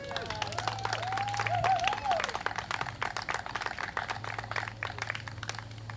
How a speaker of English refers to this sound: All right, let's finish up with some nice chants. One more hand of applause for Tehran.